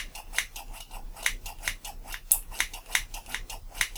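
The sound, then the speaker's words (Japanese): Small toy scissors snip in a steady, quick rhythm, about a dozen crisp metallic cuts over a few seconds, with no voices. “最近カリスマ美容師って聞かないけどさおもちゃのハサミでチョキチョキって。”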